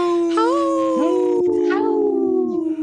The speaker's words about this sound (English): Howl. We're waiting for everybody's dog, including Dr. Stately's dog, to howl.